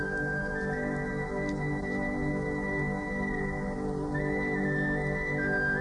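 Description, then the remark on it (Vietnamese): A bamboo flute, played by a young man seated among listeners in a forest at midday, plays a slow, mournful melody of long sustained notes that step between a few pitches, steady and unhurried, over a soft constant background hiss with no voices. “Ngồi lại ngay ngắn, anh ta đưa ống sáo lên thổi. Mọi người lắng nghe. Tiếng sáo đượm buồn như tiếng than khóc của một cuộc tình duyên dở lỡ.”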